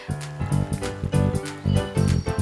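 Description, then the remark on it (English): Hooves of a goat clip-clop steadily across a wooden bridge, an even trotting rhythm of hollow knocks repeating throughout with no voices. “Bigger goat goes across the bridge and starts eating grass.”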